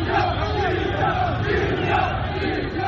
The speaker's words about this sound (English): When shots were heard in Tripoli's Martyrs Square Sunday evening, a few protesters scattered. Others cheered, arms aloft, shouting, "Libya! Libya!"